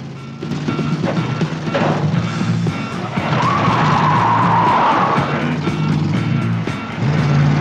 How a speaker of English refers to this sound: The undertakers get back into their car and give chase as Jack pulls out.